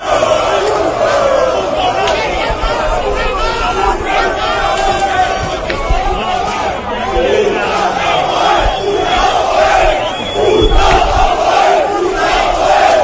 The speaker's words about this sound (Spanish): este es el sonido que se escuchaba hoy a las puertas de San Mamés de enfrentamientos de los seguidores del Apoel de Nicosia con la Ertzaina.